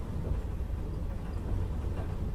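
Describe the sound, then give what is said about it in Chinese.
A steady, low rumble of a train running on rails, heard from inside the carriage as a continuous droning hum with faint rattling texture and no voices. “这一次为什么选择火车呢？”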